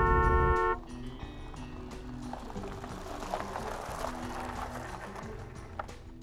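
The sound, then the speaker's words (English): One loud, steady car horn blast, lasting under a second, from a car behind another car, flashing its lights and honking on a road just past Modesto, then gives way to a continuous rumble of road and engine noise. “7-month pregnant Kathleen Johns was driving just past Modesto when the car behind her began flashing its lights and honking.”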